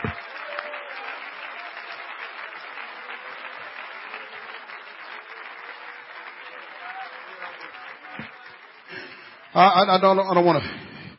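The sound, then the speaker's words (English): An audience claps their hands to the Lord in a steady, dense patter for several seconds, then a loud voice breaks out over the clapping near the end. “Clap your hands to the Lord and love Him.”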